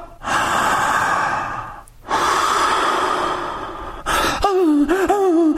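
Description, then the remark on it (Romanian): A person imitates the panting of a dog in labor, showing how to breathe through childbirth pains, loud: two long, rasping breaths, then a quick run of short, voiced, whimpering pants. “Respirați ca o cățea, împărate.”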